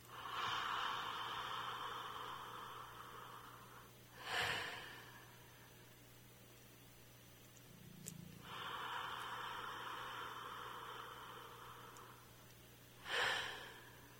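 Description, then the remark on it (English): Two slow, deep breaths during a belly-breathing exercise: each a long, airy inhale followed by a short, forceful exhale, with a quiet pause between them and no talking. “But for now, just notice what happens to your belly as you take that breath in. Just do a couple so you notice, where's your hand moving?”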